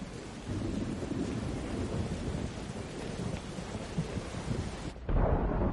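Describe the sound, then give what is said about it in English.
Steady heavy rain hisses outside as a woman runs to her house, with deep rumbling thunder rolling underneath; near the end the texture shifts abruptly to a duller, more muffled roar. “runs to her house in the rain.”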